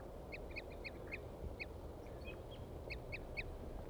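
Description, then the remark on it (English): Two crossbills, a male and a female up in the trees, repeat short, clipped toop calls, about ten in quick bursts with brief pauses, fairly high-pitched and clear over a steady low rumble of background noise. No one speaks. “And both birds are tooping now, pointing at the male here.”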